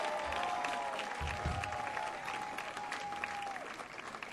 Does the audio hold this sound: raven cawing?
no